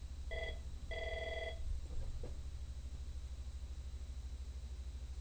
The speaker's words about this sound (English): I've got this phone here in the studio that's, I don't know what it's hooked up to. And it rings occasionally. I don't know if it's ringing for me, so I apologize for those of you who are hearing a phone in the back,